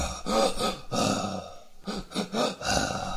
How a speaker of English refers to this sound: I chose the regenerator zombie breathing from Resident Evil 4. So when you're in Resident Evil 4, there's you're in the lab section, and there's this zombie that just you don't necessarily know where he is, but you can hear his breathing, and it's.